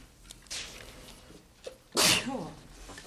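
A single loud sneeze bursts out about two seconds in, a sharp hissing explosion followed by a brief voiced tail, against a quiet background.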